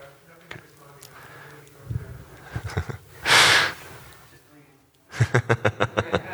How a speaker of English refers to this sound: You keep breathing.